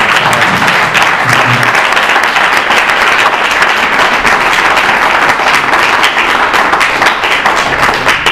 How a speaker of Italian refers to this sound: Non abbiamo mai fatto gli applausi alla fine di ogni intervento, ma adesso è il momento di farlo.